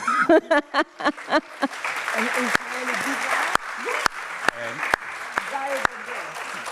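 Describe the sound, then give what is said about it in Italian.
A voice speaks briefly, then an audience breaks into sustained, dense applause that fills the room, with a speaker's voice continuing faintly over the clapping. “So soon you're gonna understand what I said, and you're gonna applaud for this only.”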